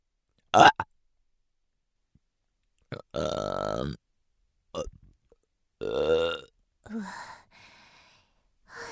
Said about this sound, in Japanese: なんでゲップするのかって？しないと気持ち悪くなっちゃうんだよね。